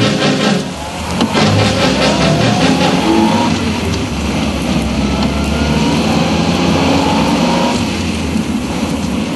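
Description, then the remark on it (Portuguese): A rented car's engine runs loud with a steady, droning rumble for the whole stretch, rising slightly in pitch early on as if revving, with no voices. “Foi bom termos alugado esse carro”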